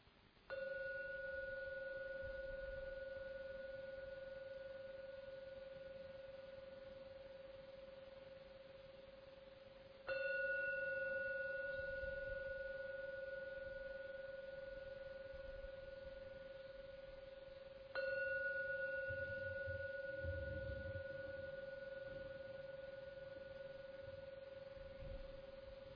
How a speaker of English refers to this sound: So now I'm going to ring the gong 3 times. The last ringing of the gong, when it fades away, is the signal to come out from the meditation.